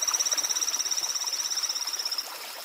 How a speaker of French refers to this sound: Contrairement aux appels en ultrasons des chauves-souris, des cétacés à dents et des souris, les chants des grenouilles des torrents ont aussi une composante qui nous est audible.